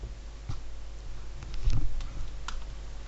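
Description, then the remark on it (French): Scattered keyboard keystrokes tap out at an uneven pace, a handful of light clicks with a brief cluster in the middle, over a low, steady background hum. “Faute de frappe.”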